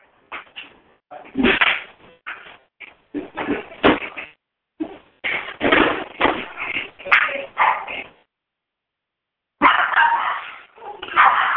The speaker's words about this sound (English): Excuse me a second. There's some dogs barking in the background, so I'm going to just close the door.